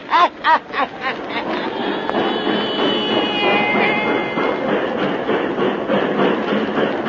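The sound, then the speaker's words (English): A train rumbles along railway tracks at a little railway depot in Louisiana, with a few rhythmic clacks at the start giving way to a steady, fairly loud rolling roar with faint metallic squeals. “Just got off that train.”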